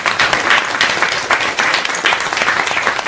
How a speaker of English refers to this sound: So thank you so much. We give him another round of applause.